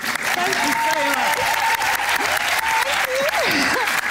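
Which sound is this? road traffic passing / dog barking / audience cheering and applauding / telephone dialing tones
audience cheering and applauding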